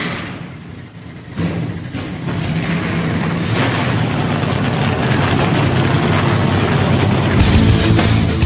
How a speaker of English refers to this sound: Now it's time. Gentlemen, start your engines! Been given, let's crank them up.